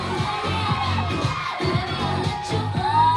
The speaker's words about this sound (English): She leads one of the show's only male guests on stage and gives him a lap dance. The crowd screams.